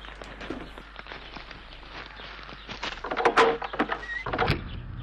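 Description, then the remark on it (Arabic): Hurried footsteps of a woman coming to answer the door shuffle by, followed by the clatter and scrape of the door being pulled open, with a brief high squeak near the end. No one speaks. “هلومي وافتح الباب. مهلا يا حاضر. أي ها أنا قادمة.”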